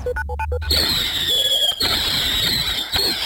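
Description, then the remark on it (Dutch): New Year's Eve fireworks going off: a burst of shrill whistling rockets, then a dense wash of crackling and hissing with a high whine, punctuated by a couple of sharp bangs. “Als het aan minister Bussemaker ligt, blijven we dit tijdens Oud en Nieuw gewoon horen. Ze vindt een vuurwerkverbod niet nodig, zei ze bij WNL op zondag.”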